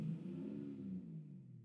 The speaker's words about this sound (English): Dang, his truck's loud.